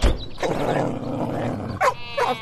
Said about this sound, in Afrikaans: Boesman is weer in 'n veg. Lustige by. Wag dat ek net eers gaan vrede maak met die hond.